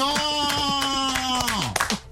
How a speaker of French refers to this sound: On applaudit